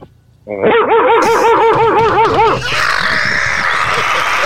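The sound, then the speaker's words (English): A man's voice imitates a dog, letting out a quick run of loud, wavering barks and yelps, then trailing into a breathy, raspy growl. “But that's one reason how I got to barking like a dog.”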